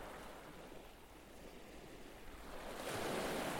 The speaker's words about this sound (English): These waves were recorded on the beach at Deal on the afternoon of June the 24th, 2021.